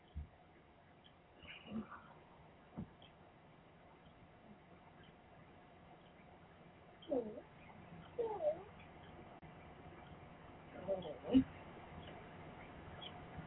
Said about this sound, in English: A baby kitty, a baby kitty.